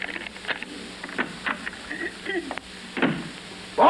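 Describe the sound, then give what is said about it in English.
A door is unlocked with its key and opened: a few small metallic clicks and rattles from the key in the lock, then a heavier thump as the door swings open, with no talking. “Oh, here's the key to the door.”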